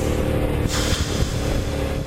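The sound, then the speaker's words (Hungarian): A Jaguar XKR sports car's V8 downshifts, its engine note jumping with a sharp rev blip and then crackling, popping exhaust burble, steady and loud throughout with no voices. “Visszaváltás, rotyogás, az mindig jó.”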